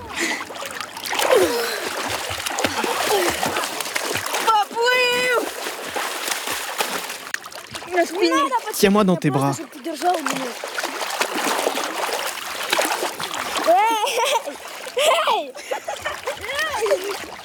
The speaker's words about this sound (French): Des cris d'enfants dans cette eau que l'on imagine froide alors que sur la rive, le soleil brûle les peaux. Une scène ordinaire qui se déroule où ? À Kramatorsk, c'est dans l'est de l'Ukraine.